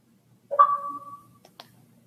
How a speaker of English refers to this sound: Oh, did you get an alert on your phone? I think I heard something.